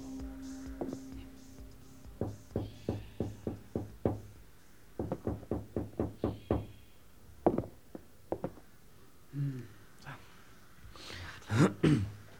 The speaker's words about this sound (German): Die drei Detektive betraten die Veranda und Justus klopfte an die verglaste Eingangstür.